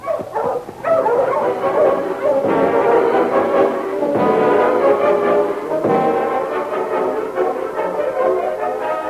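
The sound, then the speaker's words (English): A pack of sled huskies barks and yips continuously, overlapping excited calls with some whining, loud throughout. Sergeant Preston's sled dog team, halted in front of Fred Wells' cabin in Seahorse City. “Okay, go, you Huskies!”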